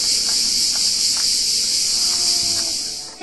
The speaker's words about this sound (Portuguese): Num passeio pela Ilha Longa, o silêncio foi rompido pelo canto vibrante das cigarras.